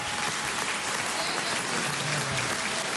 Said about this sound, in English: The motion was passed in Parliament and met with applause.